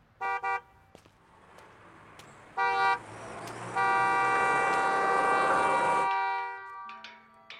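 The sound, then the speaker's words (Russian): Passenger cars roll slowly past on an empty street, punctuated by two short horn toots and then one long, steady honk before a few fainter beeps; no one speaks. “Маша идет по пустой улице. Рядом медленно проезжают легковые автомобили.”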